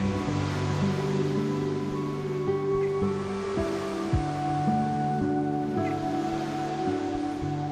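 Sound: sea surf waves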